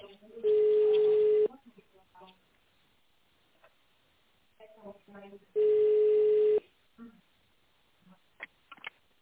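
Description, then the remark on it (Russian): Two long, steady telephone tones sound over a narrow phone line, each lasting about a second and separated by a few seconds of faint line noise and soft clicks, as an employee's extension number is dialed in tone mode. “Если вы знаете добавочный номер сотрудника, наберите его в тоновом режиме или дождитесь ответа секретаря.”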